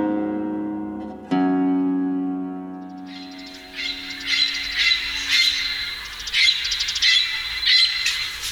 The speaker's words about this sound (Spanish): Loro de corona lila, de nombre científico Amazonas finchi, pertenece al orden de los citaciformes y a la familia citacidae. Esta especie presenta el plumaje generalmente verde, ligeramente más claro en el vientre. Mide de 30 centímetros de largo.